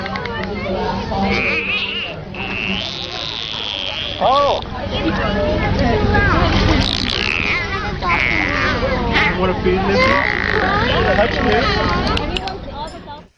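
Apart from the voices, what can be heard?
dolphin sounds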